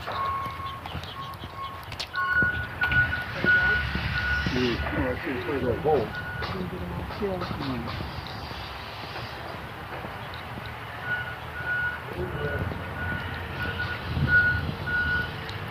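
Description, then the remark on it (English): Steady, evenly spaced reversing beeps from heavy equipment at a single high pitch sound in two runs over a low rumbling engine drone, with a pause between the series of beeps. “Heavy equipment.”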